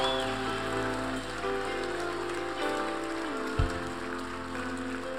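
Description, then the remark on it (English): A church audience claps steadily to give God a big clap, a dense, unbroken wash of many hands that holds at an even level throughout, with sustained keyboard-like tones humming underneath. “Come on, church, just give God a big, big clap.”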